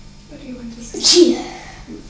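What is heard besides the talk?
sneeze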